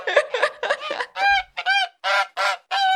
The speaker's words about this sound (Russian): То есть мне кажется, вот этот детский ужас от того, как ты видишь, как гусь на тебя шипит, там тоже можно получить. Мне кажется, до гуся нужно докопаться, чтобы он на тебя зашипел.